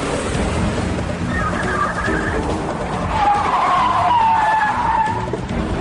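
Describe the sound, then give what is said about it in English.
Car tires screech loudly over a steady roar of engine and road noise during a car chase, a shorter squeal early on followed by a longer, louder wavering skid, with no one talking. “Screeching tires.”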